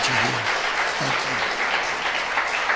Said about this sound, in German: Can we give them a hand, please? Wir wollen mal klatschen für sie.